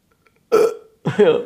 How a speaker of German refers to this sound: Hat sie jetzt, glaube ich, hat sie gerade gerülpst?